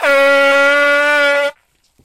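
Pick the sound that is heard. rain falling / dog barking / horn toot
horn toot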